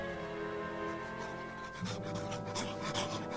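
A large hound pants heavily in quick, rhythmic breaths, growing louder partway through, over a steady backdrop of sustained, droning musical tones.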